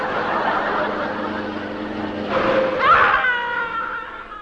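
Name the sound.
car braking sharply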